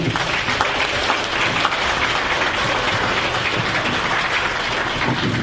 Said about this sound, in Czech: Mohutný potlesk, ano.